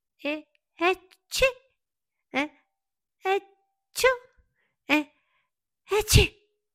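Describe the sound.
A voice mimics a string of sneezes brought on by the cold on a snowy evening, about eight short bursts with brief pauses between, the last two coming together as a louder double sneeze.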